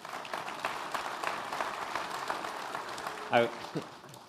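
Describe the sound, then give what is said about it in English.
An audience applauds with steady, crackling clapping that continues for several seconds, and a brief voice breaks through near the end. “People can clap if they want.”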